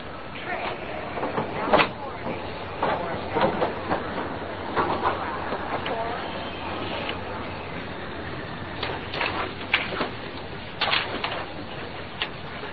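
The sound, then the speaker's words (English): Busy train station ambience: a steady rumbling wash with scattered clanks and clatters from rail cars, faint voices murmuring in the background, and occasional pigeon-like flutters. “Come on, or we'll miss the train.”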